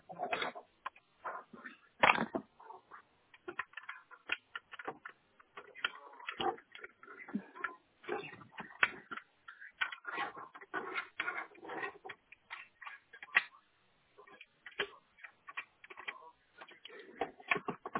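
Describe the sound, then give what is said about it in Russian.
A network cable is pulled out of a router and plugged back in, with irregular clicks, taps and rustling from handling the plug over a muffled phone line. “А кабель, который сейчас подключен у вас к роутеру, можете его вытащить и вставить заново?”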